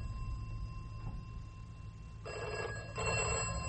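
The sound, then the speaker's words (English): A telephone bell rings in two bursts, a short pause between them, over a low background hum; the ringing is clear, with no voices. “I'll just see to the phone”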